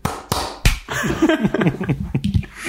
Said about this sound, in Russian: Давай хлопнем в ладоши два раза.